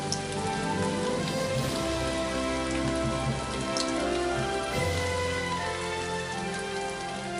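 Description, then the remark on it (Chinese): A sudden rain shower falls steadily on the water at Beihai, countless drops pattering in a dense, even hiss with a faint low rumble underneath, unbroken by any voices. “天空忽然下起了阵雨，数不清的雨点儿落在水面上，北海如同响起了热烈的掌声。”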